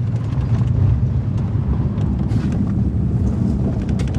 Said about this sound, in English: We've been in the car for about 2 hours, and we turn off the highway onto this dirt road.